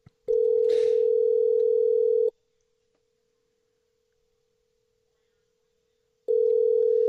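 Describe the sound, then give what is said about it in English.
A steady, low electronic ringback tone of a phone call being placed to Kenya sounds for about two seconds, falls silent for several seconds, then starts again. It is clear and fairly loud, with no voices. “Oh, please answer the phone.”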